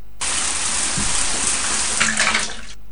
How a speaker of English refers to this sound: Have a shower.